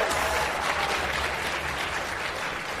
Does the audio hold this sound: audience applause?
yes